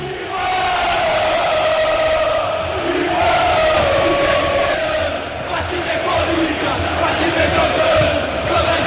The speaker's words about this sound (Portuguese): Jogadores do Corinthians se direcionam à torcida organizada do Timão, que solta a voz, escute aí no microfone da Paiquerê.